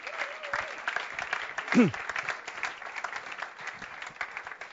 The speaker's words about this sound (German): Aber ich habe schon gesagt, hier, komm, macht doch. Ja, komm, wir klatschen mal.